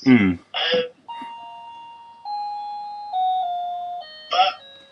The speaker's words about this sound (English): Well, that's Doorbell. nice doorbell.